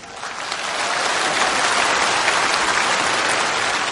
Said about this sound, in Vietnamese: Sư rất là cảm ơn với những tiếng vỗ tay chân thành đó.